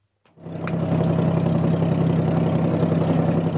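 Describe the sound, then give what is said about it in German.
The engine of a traditional wooden dhow ferry boat on Dubai Creek, the sea inlet dividing Dubai in two, starts up after a brief silence and settles into a steady, loud low-pitched idle with a constant throbbing hum and no voices. “Im Minutentakt überqueren die Dhawan, die traditionellen Holzschiffe, den Creek, den Meeresarm, der Dubai in 2 Teile trennt.”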